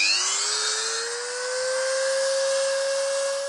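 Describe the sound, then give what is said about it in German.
A small high-speed rotary drill, resembling a dentist's drill, whines steadily while milling small round holes into a blown goose eggshell in a tiny workshop room of a house in a village near Varaždin, northern Croatia. Its pitch rises slightly then holds, with a gritty grinding hiss, fairly loud. “Doch er bearbeitet ein ausgeblasenes Gänseei und fräst kleine runde Löcher in die Schale.”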